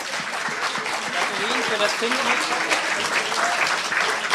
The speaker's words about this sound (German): Hervorragend. Es wird noch weitere Runden geben. Ja, ein Applaus. Ja, schönen Applaus.